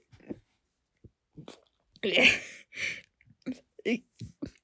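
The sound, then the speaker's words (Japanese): A single short, throaty burp rises out of soft breathy whispers and small mouth noises, louder than the quiet sounds around it. “すいません、ちょっと。ゲップが。”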